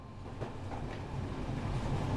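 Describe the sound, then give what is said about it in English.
A train to London rolls steadily along the rails, a continuous low rumble with faint rhythmic clatter from the wheels, growing slightly louder toward the end, with no voices. “You have to get on a train to London right away.”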